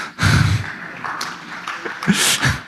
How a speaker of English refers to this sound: Yeah, that's the amount of applause that's due. That's perfect.